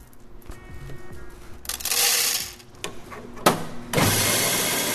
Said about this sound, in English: It's around 10 in the morning, and this may sound like a traditional Oakland coffee shop, but listen closer. This is not exactly a normal coffee house. This is Cat Town Cafe, the very first cat cafe in America.